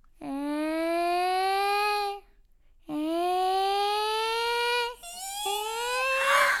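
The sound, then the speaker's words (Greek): A person imitates a cat, letting out two long, drawn-out meows with a slowly rising pitch, followed by a shorter, rougher meowing sound at the end. “Και άρχισα να νιαουρίζω.”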